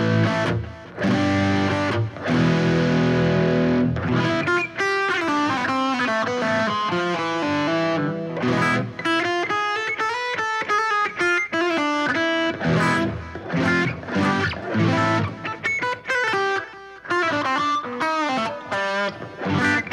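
A distorted electric guitar with a floating bridge plays alone, fairly loud, with a warm, thick overdrive: sustained chords at first, then a run of quicker picked notes and bends.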